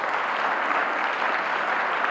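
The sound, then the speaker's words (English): Steady audience applause, a dense wash of many hands clapping at an even loudness throughout, with no voices rising above it. “That does not deserve applause.”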